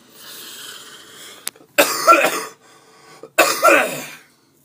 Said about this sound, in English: The cough that won't stop. We cannot shake this damn sickness.